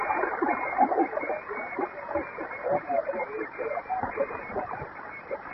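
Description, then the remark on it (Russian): A faint, garbled voice comes through an amateur radio receiver during a radio contact, nearly buried in steady hiss and crackling static from local interference, with the narrow, tinny band of the transmission fading in and out. “У меня на уровне моих местных помех, но тем не менее разобрал.”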